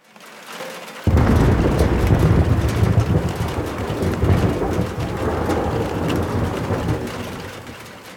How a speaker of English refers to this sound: Jeez Louise, the storm is insane. It's batten down the hatches or something.